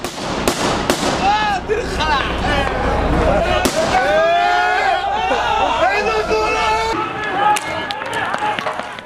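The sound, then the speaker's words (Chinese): A street protest crowd in Lebanon: many voices shouting and calling out together in a dense, agitated roar, punctuated by several sharp firecracker-like bangs, loud throughout. “没错，其实是一些人在黎巴嫩上街示威的。”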